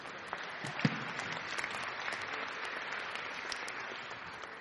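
An audience claps steadily for several seconds, a dense, even wash of many hands with a few sharper individual claps standing out near the start.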